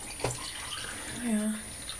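Water pours into a glass filter jug in a short, quiet splash, its gurgling pitch rising briefly as it fills, over a steady background hiss.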